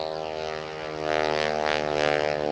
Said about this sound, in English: Don't you love all this airplane noise?